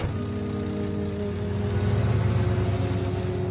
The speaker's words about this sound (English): turns to watch the black van pull away from the car park.